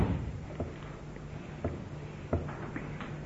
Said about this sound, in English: But could you be a dear, just open that door? I think it'll bring some fresh air in. Thanks.